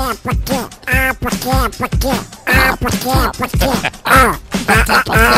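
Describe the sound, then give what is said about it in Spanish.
The garbled, quacking voice of Disney's Donald Duck chatters loudly and continuously in rapid, nasal bursts, like an excited, unintelligible rant. “El Pato Donald, el gran gruñón del universo Disney clásico, celebra su día y nosotros os recordamos cómo sonaba la voz de este personaje”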